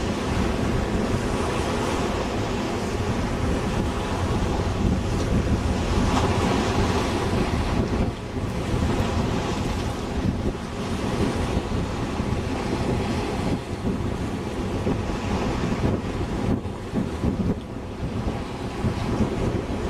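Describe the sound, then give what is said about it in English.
Steady roar of ocean waves washing onto a beach and breaking against rocks as the water recedes, dense and continuous for the whole stretch, with strong wind buffeting the microphone and no voices. “Definitely receding. The waves are not coming anywhere near Kermit or the doll, even though wind is still strong, breaking against the rocks.”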